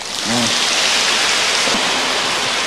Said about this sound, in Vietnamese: Xin quý vị cho tràng pháo tay.